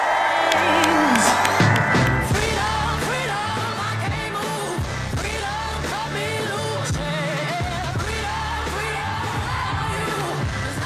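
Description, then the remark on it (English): A large crowd at a Vice President Kamala Harris campaign rally, held just north of Eau Claire on a former country music festival grounds, cheers loudly and continuously, with whoops and yells rising from a dense roar of many voices, while music with a steady beat plays underneath. “Vice President Kamala Harris speaking to a rather large crowd in just north of Eau Claire at the site of a former country music festival grounds.”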